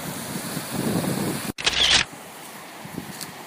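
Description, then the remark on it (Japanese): A phone camera shutter fires once while taking a photo of a river, a sharp click followed by a brief bright burst, cutting through steady outdoor ambience with the low rush of flowing water underneath. “川の写真を1枚撮りましょう。”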